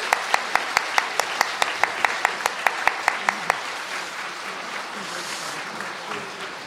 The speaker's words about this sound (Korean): 이제 우리 은퇴 장로님 또 권사님들 또 축하드리고 또 감사하다는 박수를 저희가 한번 드리면 좋겠습니다. 우리 다 같이 박수 한번 드리겠습니다.